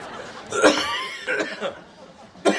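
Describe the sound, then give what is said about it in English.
Three or four short, raspy coughs from one person, spaced unevenly over a couple of seconds, each a sharp burst with brief quiet gaps between. “Well, you're coughing.”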